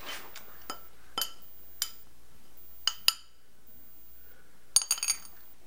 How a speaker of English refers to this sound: Let me see that. I'm gonna ding the plate. Right here.